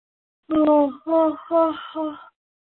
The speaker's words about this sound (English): Excuse me, I always yawn when I do energy.